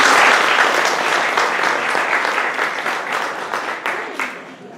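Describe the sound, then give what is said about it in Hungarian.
An audience applauds steadily, dense clapping filling the whole stretch at a fairly loud, even level before easing off slightly toward the end. “Kérem, tapsoljuk a végét.”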